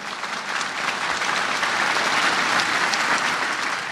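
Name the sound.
crowd applauding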